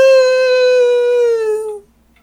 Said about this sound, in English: Oh, the next door neighbor dog is barking again. Soon I will never have to listen to that again.